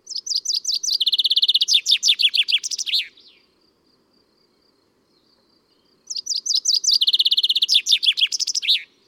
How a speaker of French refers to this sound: Ensuite, le pinson qui fait toujours pareil.